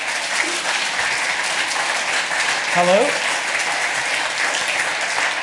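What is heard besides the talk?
audience applause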